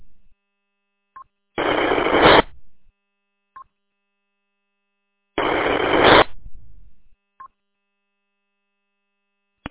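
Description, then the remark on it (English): Two harsh bursts of amateur radio static heard over an Echolink connection during a Tuscola County Amateur Radio Association net, each lasting under a second and separated by a few seconds of silence, with brief high-pitched beeps sounding just before and after each burst. “I just heard, I thought, some static.”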